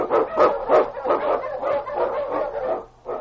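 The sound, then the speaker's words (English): King, a husky Eskimo lead sled dog in The Challenge of the Yukon, barks repeatedly in quick, rhythmic bursts, loud, with a steady string of sharp yelping barks filling the whole stretch. “The Wonder Dog King, swift and strongest of Eskimo lead dogs, blazes the trail through storm and snow for Sergeant Preston”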